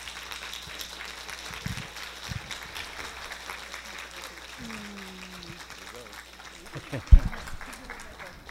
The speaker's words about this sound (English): And I am so proud and honored to introduce him to you today. So let's just stand up and give him a warm round of applause and welcome